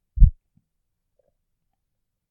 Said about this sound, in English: Just listen to each slow, rhythmic beat of my heart.